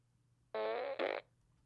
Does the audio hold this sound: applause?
no